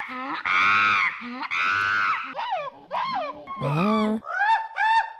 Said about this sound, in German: Ist das jetzt gerade ein Affendialekt oder war da vielleicht kein Dialekt dabei?